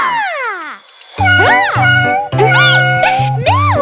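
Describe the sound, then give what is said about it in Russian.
Three drawn-out cat meows in quick succession, each rising and falling in pitch, sounding loud over a steady musical accompaniment, after a brief descending whine at the start. “Мяу-мяу-мяу!”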